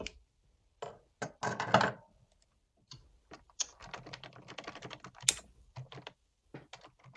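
Quick, irregular clatter of keys on a computer keyboard as notes are typed, with bursts of rapid typing separated by short pauses; no voices.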